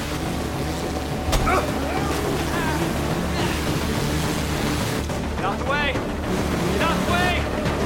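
A speedboat engine roars steadily and loudly across the water as the boat joins a chase, its rumble continuous throughout, with wind buffeting the microphone and brief higher whines or shouts rising over the din near the end.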